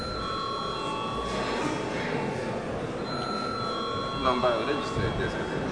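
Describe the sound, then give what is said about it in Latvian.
A sustained electric bell rings steadily throughout during a parliament session, called for by the chair before attendance registration of the deputies, a bright buzzing tone with faint murmuring voices and room noise underneath. “Lūdzu zvanu.”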